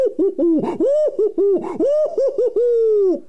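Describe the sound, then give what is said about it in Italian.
A voice imitates an owl, giving a quick run of wavering, sing-song hoots that rise and fall in pitch and end on one long drawn-out note, fairly loud. “sono un gufo ammaestrato, sono un gufo fatato, so parlare, so cantare, le formule magiche so recitare, sono il gufo del castello, sono piccolo ma cattivello”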